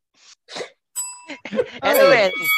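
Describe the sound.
A single bright bell ring with a clear, sustained metallic tone, briefly cutting through ongoing talk and laughter before fading under the voices.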